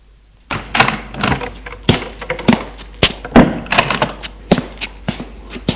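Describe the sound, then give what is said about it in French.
A door opening: a quick run of irregular wooden thunks, knocks and latch clicks, some louder than others, with no voices. “Que la porte s'ouvrit.”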